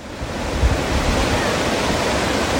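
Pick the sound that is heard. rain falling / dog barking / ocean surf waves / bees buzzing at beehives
ocean surf waves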